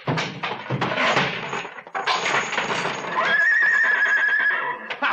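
A horse, Trigger, whinnies loudly, a long shrill neigh that rises and wavers in pitch before trailing off, with snorting and clattering noise around it.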